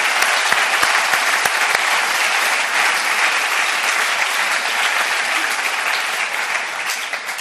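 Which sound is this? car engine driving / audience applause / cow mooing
audience applause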